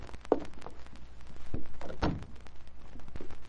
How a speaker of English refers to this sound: I'll try the door. Door's unlocked. Let's have a look inside.